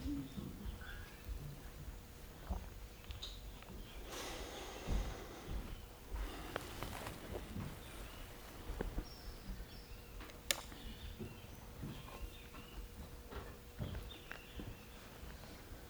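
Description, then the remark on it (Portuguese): Faint outdoor ambience with scattered bird calls, brief chirps and hoots popping up at irregular moments over a low, steady background, with a few soft rustles and thumps in between. “No, the birds also, they got ecstatic now.”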